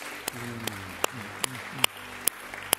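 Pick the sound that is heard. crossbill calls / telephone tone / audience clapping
audience clapping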